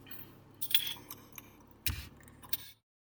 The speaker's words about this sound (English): A Grolsch beer. Grolsch Pilsner beer. Has a cork top. With a swing top cork and a glass molding that's unlike any other. Let's pop.